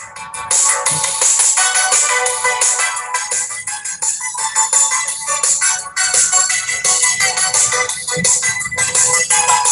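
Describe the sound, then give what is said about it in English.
An outgoing phone call rings on and on over the line with a bright, melodic ringtone tune, loud and steady for the whole stretch, with no one picking up and no voices. “I don't think she's gonna answer. But I'm gonna stay on the line until it runs out of time.”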